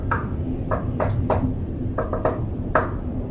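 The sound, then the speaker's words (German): Soft, irregular hammering heard through the open door of a log cabin: about eight light, sharp knocks spaced unevenly over a few seconds, some in quick pairs, above a steady low rumble with no voices. “Die Tür steht offen und ihr hört ein leises Hämmern.”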